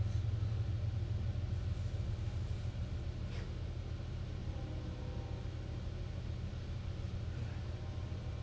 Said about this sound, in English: And good news, I can hear her train coming, too.